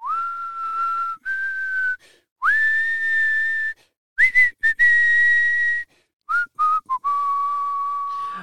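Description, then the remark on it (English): A person whistles a tune, a series of clear, sustained pure notes shifting in pitch, with brief pauses and a few short staccato notes between longer held tones, no talking. “So I'm going to whistle it.”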